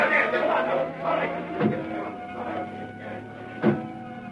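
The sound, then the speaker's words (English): The engine of the Black Beauty, the Green Hornet's car, drones steadily as it pulls away, a humming mechanical roar with a couple of sharp knocks along the way, loud throughout. “Then he heard the well-known sound of the Black Beauty.”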